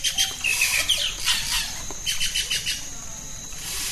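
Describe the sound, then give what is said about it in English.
Rainforest ambience in Amakayaku National Park in the Amazon: a dense chorus of chirping and whistling birds layered over a constant high insect buzz, with quick repeated calls overlapping throughout and no voices. “It's Amakayaku National Park in the Amazon.”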